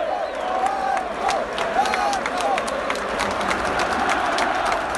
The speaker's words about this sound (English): It's full time here. It's finished. Eintracht Frankfurt 3, Hamburg 0. The Hamburg end has emptied slightly, however, the hardcore is still there. And as you can hear, they're still cheering their players who are coming over to the away end now.